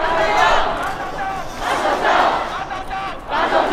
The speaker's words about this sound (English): While the crowd chants, "Don't send us to China,"